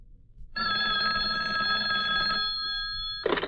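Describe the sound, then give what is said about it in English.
Commissioner Gordon's hotline telephone to Batman rings loudly in one long, continuous metallic trill that fades slightly before ending with a brief clunk. “Now, hand me the hotline phone.”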